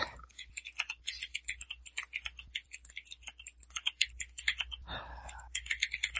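Rapid, uneven clatter of keys on a computer keyboard as someone types a message into a chat, a steady stream of crisp clicks with brief pauses, heard alone without any talking.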